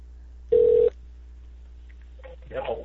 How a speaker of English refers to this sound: if you're there, your phones are ringing.